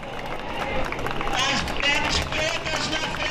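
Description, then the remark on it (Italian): A large crowd of many thousands of people, gathered in front of the city parliament in Rio de Janeiro for the last farewell to Marielle Franco and her driver, fills the air with a dense, steady roar of many overlapping voices, with scattered shouts and raised calls rising above the constant murmur. “Intorno a noi una folla straordinaria, molte migliaia di persone.”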